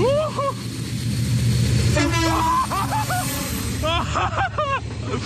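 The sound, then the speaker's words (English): The horn of a rare train sounds loud in several bursts at Shawford Station, its tones bending and wavering, over a steady low rumble of the train at the platform. “I got out of bed at 4:30 this morning as I heard that there was a really rare train coming through Shawford Station.”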